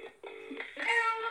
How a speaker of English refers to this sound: Okay, hang on. It's ringing.